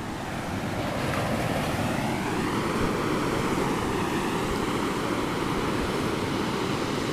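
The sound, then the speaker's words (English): Steady ocean surf rolls onto the shore in a continuous, full-bodied wash, with wind buffeting the microphone throughout and no voices present. “I decided to do a special program from the ocean side”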